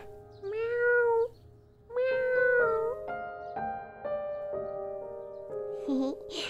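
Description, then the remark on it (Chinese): A voice imitates a kitten with two long, wavering meows, followed by softer sustained tones with light tapping. “对呀对呀，我就是那只小猫咪呀。”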